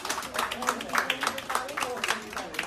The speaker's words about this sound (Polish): Personel ustawia się pod ścianami i pacjent w środku. Są brawa i życzenia zdrowia. No to akurat pożegnanie pacjentki, która mając ponad 80 lat pokonała wirusa.